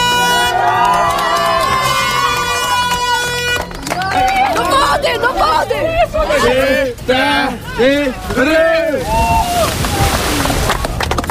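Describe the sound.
A loud crowd celebrates with excited shouting and overlapping voices, bursts of cheering rising and falling over a steady noisy wash, with some splashing of water.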